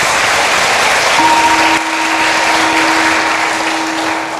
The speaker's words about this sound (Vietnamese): Rồi bây giờ nếu các con cam kết là mình sẽ có một tương lai tươi sáng bằng nỗ lực làm mới chính mình với phương pháp đúng, nỗ lực đúng và đời sống đạo đức đúng, thì các con hãy cho một tràng vỗ tay thật lớn để cam kết.